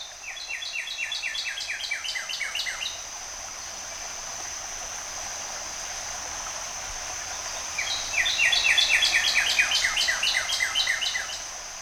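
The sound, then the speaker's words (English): A northern cardinal sings two bursts of rapid, sliding whistled notes, one at the start and another after a pause, over the steady rush of flowing spring water at Frisco Spring in Rogers. “It's his immaculate redness, a cardinal. Or as we often call him here, Red Bird. Here's one singing now at Frisco Spring in Rogers.”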